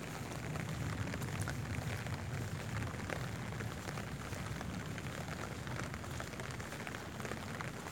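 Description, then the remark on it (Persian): Steady rain patters on the ground and on an umbrella held by a person walking in a park at the end of a street at 11:30 at night, a dense, even hiss of countless drops with no talking, constant for the whole stretch. “صدای بارون رو که شنیدم زدم بیرون، چتر رو برداشتم، اومدم پارک سر کوچه، دارم زیر بارون قدم میزنم.”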